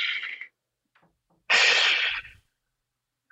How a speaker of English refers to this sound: People don't realize how important breathe, not just the normal everyday breathing that we do, but a conscious taking of the deep breath. Even just hearing you do that, I instantly take a giant breath.